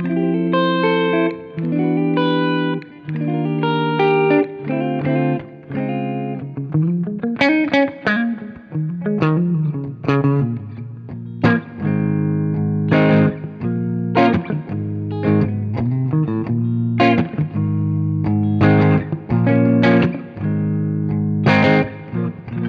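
An electric guitar plays through an amp alone, on the normal input with presence and treble at maximum and middle turned up; lighter notes ring clean while harder-picked chords and runs break up into gritty overdrive, steady and fairly loud throughout.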